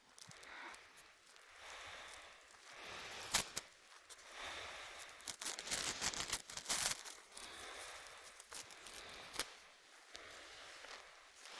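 A small piece of crisp green colored paper is torn off in several short, rasping bursts with brief pauses between, some crinkling and rustling mixed in, no voices.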